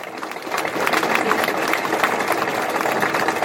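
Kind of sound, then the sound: crowd, audience applause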